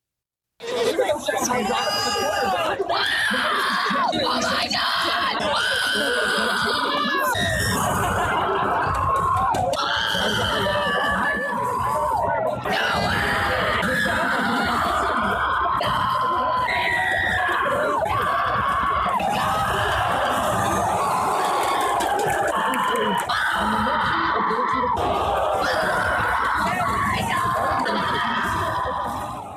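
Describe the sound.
A boy screams and shrieks at the top of his lungs, loud, in long repeated bursts over the steady chatter of a crowd, with other voices mixing in throughout; nobody else is screaming.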